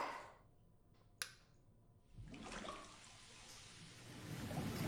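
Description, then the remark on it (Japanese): A short click, then a steady rush of warm carbonated water pouring from the shoulder-height spout of a bath unit, hissing and fizzing continuously and swelling slightly toward the end, with no voices. “あ、出てくるお湯、炭酸水にもできるんだ。ちょっとやってみてもいい？”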